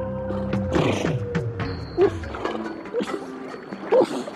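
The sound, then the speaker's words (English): Antarctic seals calling in a dense chorus of low moans, trills and descending whistles, with sharp chirping notes recurring every second or two over a steady, reverberant background. “We're listening to the sounds of seals, just one of the many different kinds of wildlife that make their home in the Antarctic.”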